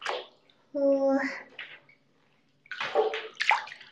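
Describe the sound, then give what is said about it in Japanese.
Bathwater sloshes in a tub, into which a Lush bath bomb shaped like the One Piece straw hat has been dropped, in two splashy bursts separated by a short quiet pause, with a brief resonant, slightly tonal hum during the first swell. “前にいただいたラッシュさんのなんかワンピースコラボみたいのをしてた時があってね、ワンピースのなんか麦わら帽子の形してるラッシュの入浴剤、バスボムを今、贅沢にドボンって入れて、めっちゃいい匂い。”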